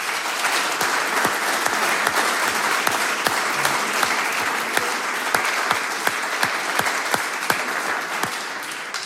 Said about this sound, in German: Und deswegen kommt der nächste Applaus von der Bühne an unser Publikum. Danke euch.